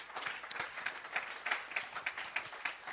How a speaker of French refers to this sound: Est-ce qu'on peut donner une bonne main d'acclamation à notre Jésus?